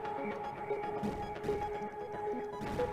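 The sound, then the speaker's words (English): Game explosion sound effects as a rocket explodes in a game: a few short, crunchy bursts of noise rise over a steady droning hum at an even moderate level, with no one talking. “So what should happen now is, when the explosion happens, it should then turn off the collider, pause the rocket in the location, and play the sound effect.”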